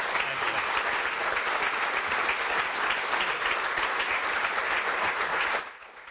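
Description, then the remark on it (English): Sustained applause from an audience at the National Press Club for Labor's Shadow Assistant Treasurer Andrew Lee, a dense steady wash of many hands clapping at an even loudness that cuts off and fades near the end. “Ladies and gentlemen, can I ask you to put your hands together for Labor's Shadow Assistant?”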